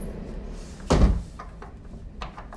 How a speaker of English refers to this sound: I'll go back inside and close the door.